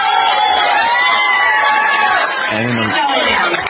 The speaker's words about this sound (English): And the raucous applause.